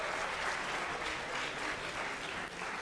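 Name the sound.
audience round of applause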